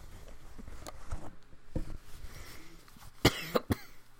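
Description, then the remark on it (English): A few quiet, muffled sounds give way to a cluster of sharp coughs near the end from a person getting over a cold, three quick bursts in a row with no talking. “Getting over this cold, so I'm having a cough.”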